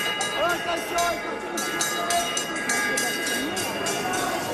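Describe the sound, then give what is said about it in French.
A closing bell rings repeatedly in a steady rhythm at an agricultural fair, marking closing time for the cows, visitors and exhibitors, over a busy, echoing space with crowd noise and voices filling the background. “Voilà, et c'est la cloche, c'est l'heure de la cloche pour tout le monde, pour les vaches, pour les visiteurs, pour les exposants.”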